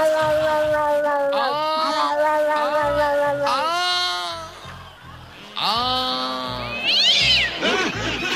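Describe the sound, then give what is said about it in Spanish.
A voice imitates a cat in heat caterwauling: several long, wavering yowls that rise and bend in pitch, loud, with short pauses between, ending in a higher squealing cry. “Era un gato en celo.”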